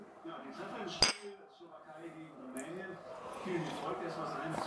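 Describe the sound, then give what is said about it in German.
A single bright clink of glasses of iced tea touching in a toast, sharp, while people murmur and chat around it. “Wollen wir anstoßen?”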